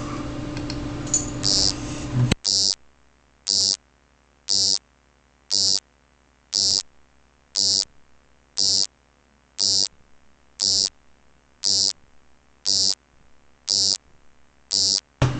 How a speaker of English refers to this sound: Okay, here is Key Jazz Xerox Frog. It's a frog made out of a Xerox.